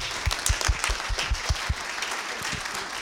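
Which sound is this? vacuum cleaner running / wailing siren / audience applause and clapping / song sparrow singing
audience applause and clapping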